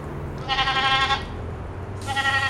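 A goat bleats twice, loud, with a quavering, nasal cry, in a livestock barn at the 2013 Washington County Fair on an afternoon of around 100 degrees. The second call is cut off at the end, and a low steady hum of barn noise runs underneath.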